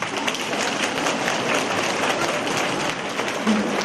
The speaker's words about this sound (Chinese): 鼓掌。